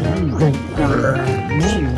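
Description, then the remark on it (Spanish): A voice imitates the low, gassy grunting of a dead, bloated pig being moved and lifted into the bed of a pickup truck, its stomach gases escaping, in a continuous, warbling string of guttural noises, fairly loud, with bending pitch throughout. “Mientras lo subíamos, cada que movíamos al cerdo, hacía unos ruidos medios extraños.”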